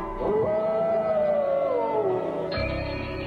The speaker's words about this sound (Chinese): 人们常常忽略这样一个细节，原和狼嚎起来像婴儿啼哭